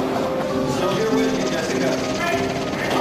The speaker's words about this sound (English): And onto the waiting helicopter.